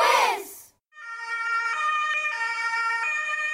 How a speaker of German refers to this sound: Dies ist der Ton der Sirene von Rettungswagen.